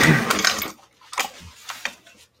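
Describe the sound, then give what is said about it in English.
A chair scrapes and shifts: a broad rough scraping burst for the first half second, then several shorter knocks and scuffs trailing off, with no talking. “So I'm just going to shift my chair here.”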